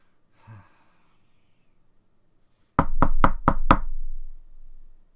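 knocking on a door

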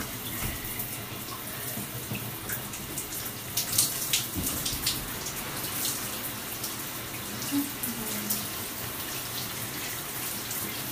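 shower water running

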